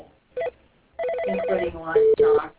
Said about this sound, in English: Someone's phone ringing, therefore your phone is not on mute. We can hear the office phone ringing.